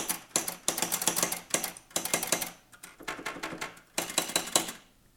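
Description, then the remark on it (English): A Noiseless manual typewriter, its dial set to the manifolding setting, clatters loudly in quick bursts of sharp, metallic key strikes, each group separated by brief pauses, percussive with no voices. “Now we'll set the dial to manifolding. Now this sounds like a typewriter usually kind of sounds, only even more so.”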